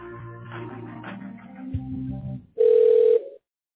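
A telephone line's ringing tone: one steady, mid-pitched buzzing burst lasting about half a second, loud and alone, following a stretch of softer, murmuring harmonic sounds.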